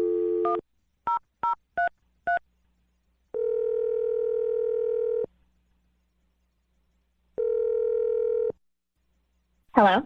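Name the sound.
telephone number being dialed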